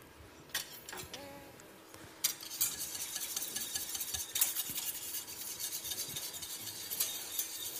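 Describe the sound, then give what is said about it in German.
A utensil scrapes and clinks steadily against the inside of a pot as a thick cheese mixture of water, corn starch and agar-agar is stirred while being brought to the boil, with bright metallic scraping and soft wet churning, no voices. “Am besten immer wieder ein bisschen umrühren.”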